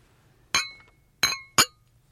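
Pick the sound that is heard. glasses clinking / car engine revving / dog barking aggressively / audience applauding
glasses clinking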